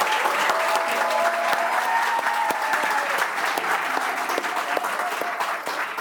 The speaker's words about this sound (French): Donc, merci pour vos applaudissements et bravo aux lauréats, mais je vais y revenir tout à l'heure.